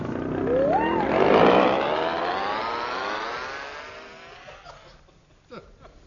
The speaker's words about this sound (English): Come now, hold this outboard motor.